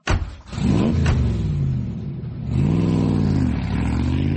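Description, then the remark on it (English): A Ferrari sports car engine roars to life and revs loudly, its pitch climbing twice in rising surges over a steady throaty rumble, with no voices. “Hop into my Ferrari and I'll give you a lift to the squalid little place you laughably call home.”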